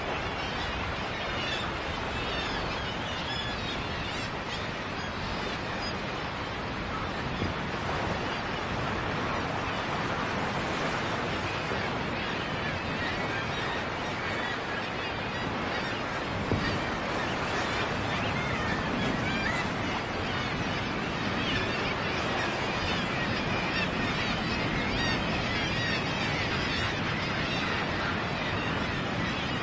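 A dense, continuous din of common murre pairs calling as they reunite at a crowded breeding colony after half a year at sea, harsh overlapping growls and croaks from many birds at steady loudness, with a faint wash like surf beneath.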